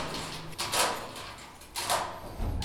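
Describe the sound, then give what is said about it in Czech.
Two grating metallic clunks about a second apart as another large lock is worked open on a sheet-metal door on the way up to the top floors, followed by a low thud at the very end. No voices. “Pan Štěpánek odmyká dva masivní zámky na mříži a volá na dispečing”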